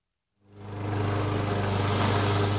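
A lawn mower engine starts up after a brief silence and settles into a steady, loud, droning hum with a rough mechanical rattle, running continuously as a man mows the front lawn outside a modest family home in Salinas on a warm weekday evening.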